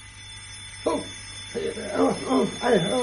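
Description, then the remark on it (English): After a brief quiet moment, an alarm clock starts ringing at 7 o'clock in a run of repeated, wavering bursts, fairly loud, and keeps going to the end. “Hang on, blooming clock.”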